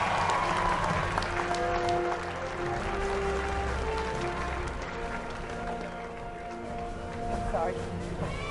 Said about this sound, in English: Let's give a round of applause as we invite fellow cornerback Otis Smith, safeties Lawyer Malloy and Rodney Harrison to the stage.